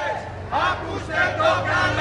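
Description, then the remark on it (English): A large crowd of marchers protesting austerity measures in central Athens, Greece, chanting in loud, rhythmic bursts of shouting, voices rising and falling in waves over a steady low rumble. “That was one of the more polite chants of the marchers, who were shadowed all the way through central Athens by riot police.”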